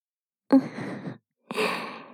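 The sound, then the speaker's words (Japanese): Two soft, airy breaths blown very close to the right ear, one after another with a brief pause between, each a gentle whooshing exhale with no talking. “吐息が当たっているだけでゾクゾクしちゃって、あなたはお耳が敏感だったんですね。”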